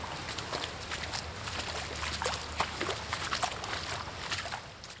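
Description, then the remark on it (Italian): Boots slosh and squelch through water and mud in a steady series of wet footsteps as people walk back toward the exit of a tunnel being dug near the village of Brienz, with splashy bursts recurring throughout over a low background rumble. “Si avvicina il momento dell'esplosione e noi torniamo sui nostri passi, affondando gli stivali nell'acqua e nel fango in direzione dell'uscita.”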